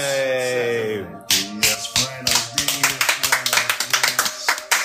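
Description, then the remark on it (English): A short sustained tonal sound gives way to audience applause as a professional wrestling tag team is introduced: loud, sharp claps falling into a steady rhythm that grows quicker and denser toward the end. “Hold your applause.”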